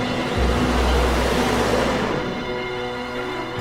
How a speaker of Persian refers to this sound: بیتا ماشینش رو روشن میکنه و حرکت میکنه.